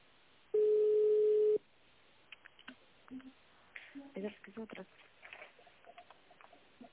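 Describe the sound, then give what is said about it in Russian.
A steady one-second telephone tone sounds over a phone line during a call to an energy-equipment plant, followed by a quick, irregular run of short touch-tone dialing beeps, thin and moderately loud. “Переведите телефон в тональный режим, затем наберите номер нужного вам абонента или дождитесь ответа секретаря.”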